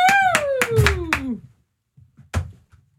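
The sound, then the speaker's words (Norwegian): A few people in a radio studio clap in quick, loud bursts, about five claps, welcoming a joke-teller guest into the studio, while a voice cheers in a long falling call. After a short pause comes one final clap. “Vi klapper han inn.”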